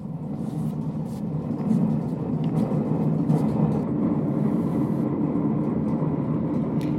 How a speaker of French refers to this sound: Ça fait un bruit qui est quand même assez fort, mais typique d'une batteuse.